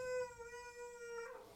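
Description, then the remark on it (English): A dog lets out a single sustained howl, a steady tonal wail lasting just over a second before it trails off, heard clearly on its own without any talking. “Baby dog is now disagreeing.”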